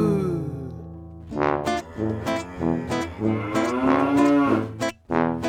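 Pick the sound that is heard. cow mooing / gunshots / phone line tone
cow mooing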